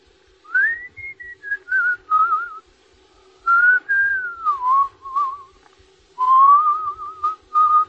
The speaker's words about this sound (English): What's that you're whistling? That? Just a song.